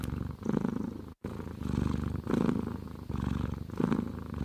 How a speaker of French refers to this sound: une œuvre non très très longue avec les ronronnements de 9 chats